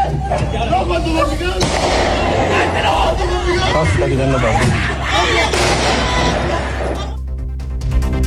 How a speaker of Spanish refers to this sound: cuando los ladrones sacan su armamento y lo comienzan a disparar